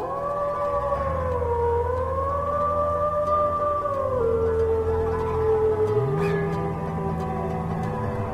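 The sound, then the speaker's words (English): Several wolves howl together in long, sliding, wavering tones that overlap and hold steady for the whole stretch, a continuous eerie chorus with no talking. “Wolves were not the only problems”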